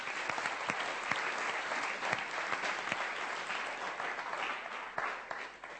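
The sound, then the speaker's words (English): A crowd of people clapping steadily in thanks to the team who served with helps and administration, a dense, sustained wash of applause with occasional sharper individual claps standing out, lasting the whole stretch without talking. “Let's give them a clap.”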